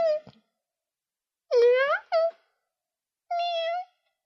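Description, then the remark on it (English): A man's voice imitates a cat meowing: four short, fairly loud mews, two quick ones in the middle, with pauses between and no other talking. “Your husband's meowing.”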